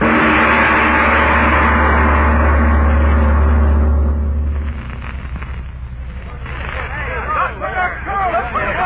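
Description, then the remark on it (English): A truck engine grinds and rumbles loudly for several seconds as someone tries to start it, then drops away into a confused hubbub of shouting voices and commotion. “Them guys trying to start that truck.”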